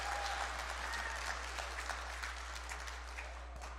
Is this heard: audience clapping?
yes